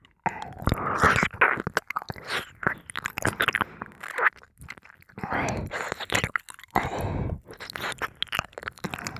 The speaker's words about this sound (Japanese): 反対側もペロペロって舐められて嬉しいですか？